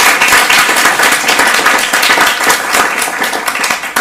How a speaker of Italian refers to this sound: Perfetto, un bel applauso allora.